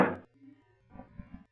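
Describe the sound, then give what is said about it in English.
A door opening onto a terrace: a sharp latch click, a faint drawn-out creak, then a few soft thuds as it swings and settles, with no one talking. “Here, this door opens onto it.”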